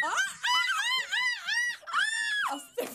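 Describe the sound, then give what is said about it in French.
Two voices in a duo mimic seagull cries with a run of loud, high, arching squawks in quick succession, ending in one long drawn-out shriek that drops off, followed by a brief breathy sound. “On parle de femmes, on parle de mouettes.”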